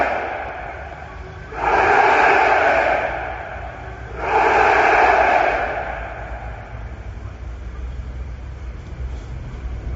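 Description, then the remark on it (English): A crowd at a demonstration in Rome, outside the historic headquarters of Italian socialist movements, in memory of three right-wing militants killed in 1978, chants two loud, drawn-out shouts a couple of seconds apart, each trailing off in a lingering echo over a steady low rumble. “I like the echo. You can hear the echo.”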